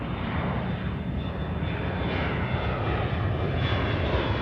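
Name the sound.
airplane engine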